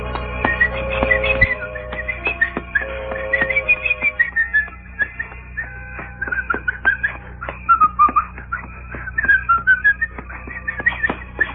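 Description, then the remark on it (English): A man whistles a wandering melody at night as he approaches a gnarled tree in the darkness, with continuous bright wavering notes over a faint low background hum throughout. “As he approached a tree whose limbs were gnarled and fantastic in the darkness, he began to whistle.”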